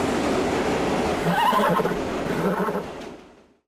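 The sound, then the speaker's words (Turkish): A horse in Australia lets out a loud, wavering whinny amid steady outdoor noise, the neigh rising and trembling before the sound fades away at the end. “İlginç olay Avustralya'da yaşanırken polis atın ahırda meydana gelen hırsızlık sonrası kaçtığını açıkladı.”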